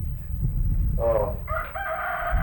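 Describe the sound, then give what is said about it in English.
A rooster crows, opening with a short rising note and then a longer drawn-out call, over a steady low background rumble. “We were talking about your chickens.”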